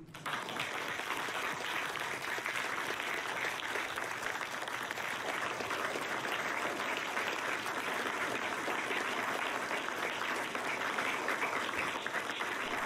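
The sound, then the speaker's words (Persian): Sustained applause from a crowd for Judge Kim Ga-on, steady and dense for about thirteen seconds, many hands clapping at once without a break at a constant level. “امروز یه قهرمان ملی هم همراه منه، قاضی کیم گاون. لطفاً تشویقشون کنین.”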